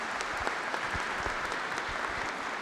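A crowd applauds steadily, a dense, even wash of many hands clapping with scattered sharper claps standing out, holding a constant level throughout with no voices.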